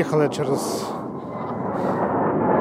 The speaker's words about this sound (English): Suddenly, a low-flying MiG-29 streaks by.